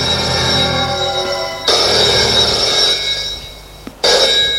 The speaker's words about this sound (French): Après-midi, le téléphone sonne dans le bureau de Maurice.